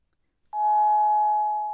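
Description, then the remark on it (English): A doorbell rings with one steady, sustained electronic tone that starts abruptly after a brief silence and holds at an even, fairly loud level to the end, with no voices. “Baby, get the door, please.”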